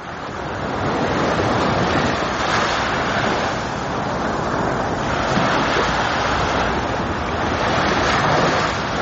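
Steady, loud surf of the sea at Mariupol rolls in continuously, waves washing onto the shore with broad swelling surges and a windy hiss, with no voices.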